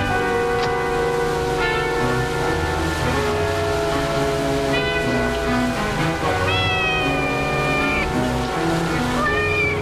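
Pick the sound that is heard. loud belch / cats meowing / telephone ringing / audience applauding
cats meowing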